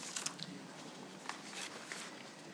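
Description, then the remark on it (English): Sheets of paper being shuffled at a meeting, a soft, continuous rustle broken by several brief crisp crinkles and flicks. Quiet overall, with no voices. “And give me a second because there's a lot of paper.”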